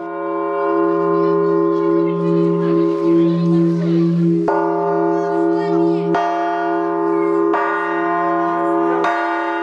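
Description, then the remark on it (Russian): The main church bell, weighing 1.5 tonnes, is struck several times at uneven intervals by the priest and those present trying their hand as bell ringer, each loud strike ringing out in a long, humming tone, with a murmur of voices in the background early on. “А за настоятелем и все присутствующие попробовали себя в качестве звонаря.”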